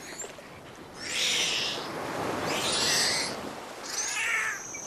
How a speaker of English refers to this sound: These strident sounds can be heard when multiple dolphins are moving toward the same prey.